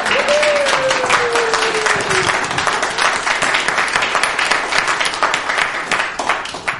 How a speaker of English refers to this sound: Let us welcome her in the name of Christ. And this is where you get to clap in church.